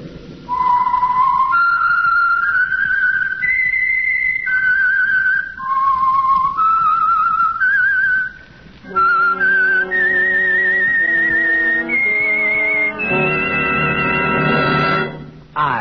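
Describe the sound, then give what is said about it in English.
A clear whistled theme melody of stepping, sustained notes rises and falls, then repeats with richer instrumental backing swelling beneath it. Loud and steady throughout, with no talking. “That whistle is your signal for the Signal Oil Program, the Whistler.”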